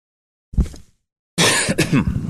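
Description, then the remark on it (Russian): Two loud coughs with a brief pause between them: a short, chesty first cough, then a longer, harsher burst. No one speaks. “Извините, я сегодня немножко подустал, поэтому буду покашливать.”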